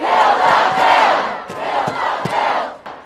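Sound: protest crowd shouting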